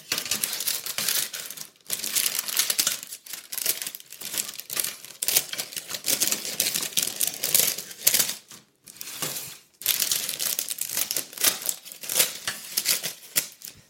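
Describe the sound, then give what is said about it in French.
Baking paper crinkles and rustles as the excess overhanging the rim of a cake tin is trimmed with scissors, a steady run of crisp snipping and crackling with a few brief pauses and no talking. “Et pour terminer, je vais découper le papier qui dépasse au-delà du bord du moule.”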